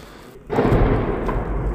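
A sudden heavy boom from an artillery shell explosion about 200–300 metres away, behind a neighbouring building, heard from a military base, breaks out of a low background and trails into a long, deep rumbling roar; no voices are heard.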